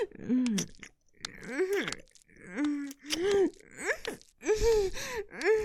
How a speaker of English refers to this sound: You're breathing hard.